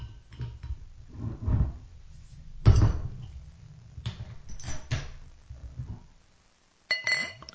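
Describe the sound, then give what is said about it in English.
A hazy IPA made with milk sugar, vanilla and strawberry being opened and poured: sharp clinks and clicks of a bottle or can, low handling rumbles in between, a brief quiet stretch, then another burst of clinking at the end. “All right, let's crack this open.”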